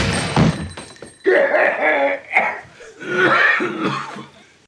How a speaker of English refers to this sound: That's professional acting coughing. That coughing is so intense.